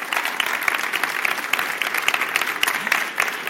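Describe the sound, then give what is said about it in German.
A sustained burst of audience applause for authors Anna Wills and Nora Tom and their book Wimmelbuch der Weltreligion, dense and steady with many hands clapping at once, fairly loud and filling the whole stretch without any voices. “Das ist euer Applaus.”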